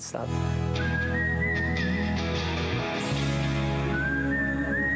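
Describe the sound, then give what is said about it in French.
A clear whistled melody glides along over a full instrumental backing, with a gliding phrase early on, a short pause, then the whistling resumes near the end. “Et là j'ai vraiment cru qu'ils allaient me dire « Non, arrête !» avec une partie sifflée en plus.”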